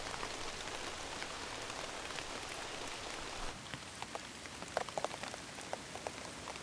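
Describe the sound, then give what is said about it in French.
Rain drips onto large succulent leaves, recorded up close in macro outdoors on a morning in a forest: a steady background patter with distinct individual drops tapping out irregularly, and some louder plinks standing out near the end. “Ambiance extérieur matin en forêt. Pluie en macro sur grosses feuilles de plantes grasses.”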